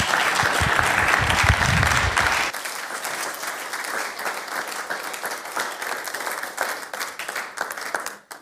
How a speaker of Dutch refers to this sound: Zullen we die vrouw een applaus geven? Ja.